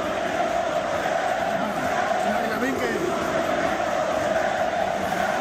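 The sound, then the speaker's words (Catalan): A large stadium crowd at the RCD Stadium in Cornellà-El Prat, during a friendly football match between Spain and Morocco, chants in unison, a dense, steady roar of many voices that stays loud and unbroken for about five seconds. “aquests crits a musulmà aquí no voti...”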